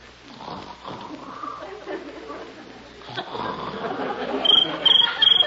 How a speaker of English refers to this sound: That's just a little cricket. A cricket? A cricket yelling like that? That's the noise they make by rubbing their legs together.